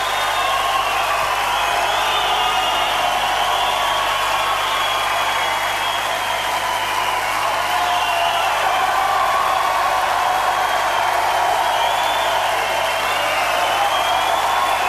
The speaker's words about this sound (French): Et je vous laisse écouter l'ovation du public de Nancy.